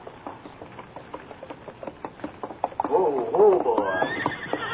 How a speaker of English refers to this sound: As they sat beside their small campfire, they heard the hoofbeats of an approaching horse.